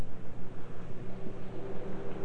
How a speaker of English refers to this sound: Let's listen to the rain. Do you hear the rain outside on the leaves? That's a mango tree, like the monkey lives in. Did you hear the rain? Yeah, I sure do hear the rain.